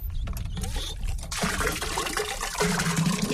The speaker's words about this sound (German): Ohne sichtbare Anstrengung pumpt er mit der rechten Hand Wasser in einen Eimer.